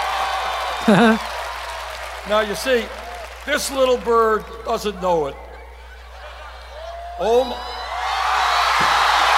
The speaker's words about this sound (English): Oh, and now the bird flew up on the podium, Joey, and the crowd goes insane. It's so cute.